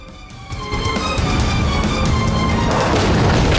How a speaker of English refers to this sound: The silver car now zooms towards an S-bend. It takes a corner at speed and runs into a woman riding her bike with the child on board.